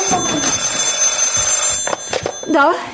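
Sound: telephone ringing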